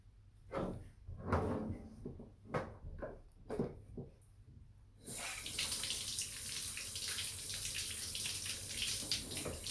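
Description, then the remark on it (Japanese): Several clunks and knocks are followed by a steady hiss of shower water running, starting abruptly halfway through and continuing evenly, fairly loud, with no one talking. “じゃあ、シャワーで綺麗にしよっか。”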